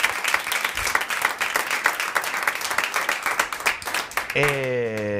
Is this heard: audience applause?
yes